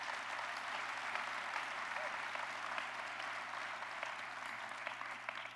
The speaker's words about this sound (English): Let's give her a round of applause.